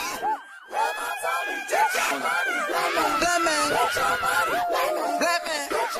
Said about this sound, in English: You know, these sort of cries and screams and laughter. And it's like, it makes me think of how you can't always tell whether those are cries of joy or cries of pain.